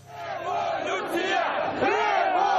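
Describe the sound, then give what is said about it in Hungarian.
A large crowd of anti-government protesters on Independence Square in Kyiv, Ukraine, chants "Revolution!" in unison, many voices rising and falling together in a loud, sustained roar that swells slightly toward the end. “Forradalom! Skandálták a tüntetők a kijevi függetlenség terén, miután Viktor Janukovics ukrán elnök váratlanul kormányzati tisztséget kínált az ellenzék két vezetőjének, amit ők nem fogadtak el.”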